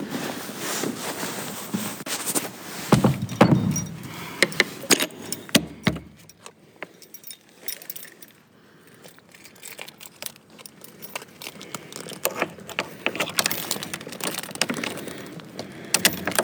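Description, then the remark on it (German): Metallic rattling and clattering, like keys and a latch being handled, then the heavy door of the Grauer Turm (Grey Tower) swings and thuds shut, followed by quieter shuffling and faint footsteps. “Und so wie die Tür des Grauen Turms gerade ins Schloss gefallen ist”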